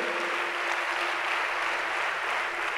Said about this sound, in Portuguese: Dê uma salva de palmas, merece o nosso Deus.